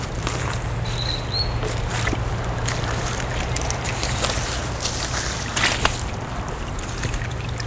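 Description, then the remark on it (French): Wet, watery sloshing and splashing in a continuous wash as someone walks along a waterlogged trail in the Estérel massif, with irregular soft squelches like steps through soaked ground, over a steady low hum. No one speaks. “En sentier gorgé d'eau.”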